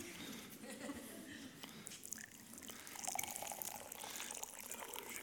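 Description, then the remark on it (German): Hot water trickles and splashes softly as it is poured into a glass, a faint continuous liquid sound lasting several seconds with a few small drips, a little fuller toward the end. “Also, ich habe hier ein Glas mitgebracht mit heißem Wasser.”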